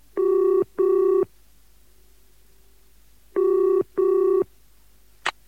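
A telephone rings in the classic double-ring pattern: two pairs of steady electronic trills separated by a pause, loud, followed by a brief click near the end.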